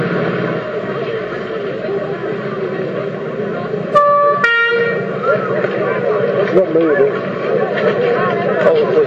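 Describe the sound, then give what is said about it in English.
A Lindsay Fire Brigade fire engine, following behind an ambulance, blares its horn in two short, loud bursts midway through, close by, over a steady rumble of traffic and engine noise, with people talking in the background. “Ambulance? No, the fire engine's behind it.”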